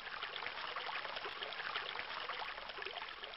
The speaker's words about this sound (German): Gut, dass hier nur der Fluss zu hören ist.